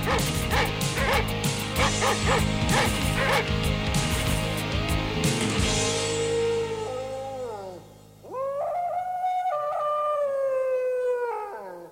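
A dog barks in rapid, loud bursts for several seconds, then shifts into long, rising howls and whines that carry on alone to the end.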